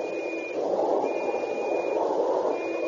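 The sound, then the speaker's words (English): Three long, steady blasts on a regulation Northwest Mounted whistle as a signal to a skipper, each a thin high-pitched tone separated by short pauses, sounding fairly faint over a constant rushing background noise. “Signal the skipper and I agreed on the three long blasts on this whistle.”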